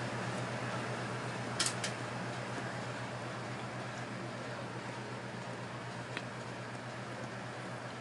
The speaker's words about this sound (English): Huh. Appears my neighbor's installed an air conditioner.